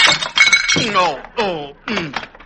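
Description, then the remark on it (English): A potted geranium topples from a second-story window on Lenox Avenue onto a man's head and smashes in a sharp, bright burst of breaking crockery, followed by several drawn-out, falling vocal groans. “Well, a few weeks ago, Andy Brown was walking down Lenox Avenue without a care in the world when suddenly a potted geranium toppled from a second-story window.”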